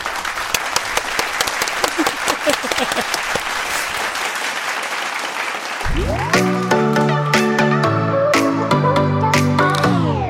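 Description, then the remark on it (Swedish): Dense, steady clapping from a group of hands lasts about six seconds, then gives way to a burst of loud music with sustained tones and punchy beats. “Får göra en applåd.”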